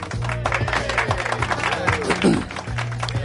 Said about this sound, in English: That applause is like this. Yeah. Well, it's the guys, production assistants, janitors, everybody they could get in to come into the studio.